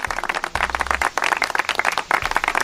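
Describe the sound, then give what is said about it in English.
A canned applause sound effect, played by accident: a burst of crowd applause, dense overlapping hand claps filling the stretch evenly and fairly loud, with no talking over it. “I didn't mean to put the applause on.”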